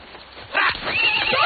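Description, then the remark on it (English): A horse neighs loudly, a strained whinny rising and wavering, with the rhythmic clip-clop of hooves underneath as the horses are set loose and move. “Why is he loosing the horses?”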